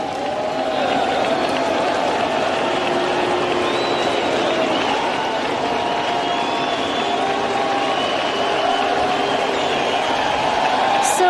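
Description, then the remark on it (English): A big ballpark crowd cheers and roars continuously as Adam Jones makes his first appearance at the plate, with scattered shouts and some drawn-out boos mixed into the steady, loud wall of noise. “I mean, the cheering isn't instantaneous. And did I hear some booing in there, too?”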